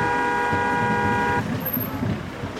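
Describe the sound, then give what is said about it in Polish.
A car horn blares in one long, steady honk with a flat, reedy pitch, then cuts off, leaving a low rumble of passing traffic, at a street picket protesting for press freedom outside the Dziennik Wschodni newspaper office in Lublin. “Jeżeli jesteś za wolnością słowa w wolnej prasie, trąbnij dwa razy.”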